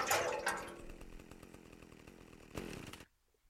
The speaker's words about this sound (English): Chainsaw equipped. Chainsaw.